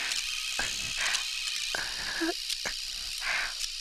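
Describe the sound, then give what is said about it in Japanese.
An electric shaver buzzes steadily with a hissy, high whir, broken by several brief scratchy bursts as it moves. No one speaks. “これが電気シェーバーじゃなくてカミソリだったら。”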